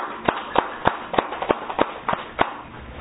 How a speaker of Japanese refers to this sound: 皆さん盛大な拍手でお祝いをしてあげます。